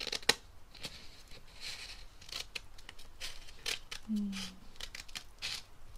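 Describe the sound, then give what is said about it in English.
Scissors snip through paper in a series of crisp cuts, with brief bursts of rustling between them and a faint low murmur near the end. “I like the sound of paper being cut, but I don't like the sound of paper getting crinkled.”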